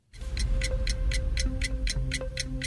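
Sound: countdown clock ticking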